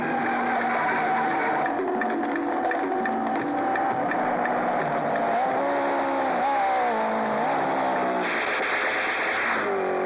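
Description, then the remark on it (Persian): A car engine revs and climbs in pitch as it accelerates, with harmonic tones rising and dipping in waves, loud, no voices present. “گاز بده تونتر.”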